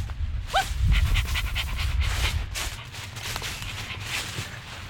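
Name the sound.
dog panting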